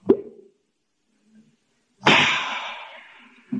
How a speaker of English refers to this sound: That's okay. I brought some with me in my satchel. I think I'll open a bottle and take a slug now.